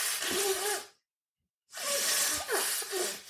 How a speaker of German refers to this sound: weil ich muss ja die Nase putzen. Es tut mir furchtbar leid.